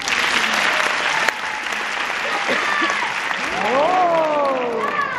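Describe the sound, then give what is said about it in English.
A crowd claps steadily and loudly throughout, a dense wash of applause with scattered rising whoops and cheers from the audience toward the end. “So, applause!”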